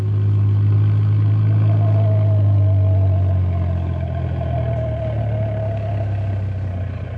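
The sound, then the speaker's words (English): A truck engine rumbles steadily, a deep low drone with a faint whine riding above it, holding at a constant level for several seconds with no voices. “You better meet the truck outside of town at Beaver Creek School instead of the town limits like we usually do.”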